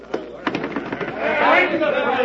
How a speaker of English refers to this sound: Listen to them. Listen to them. They have been shouting that ever since they saw me come through the streets.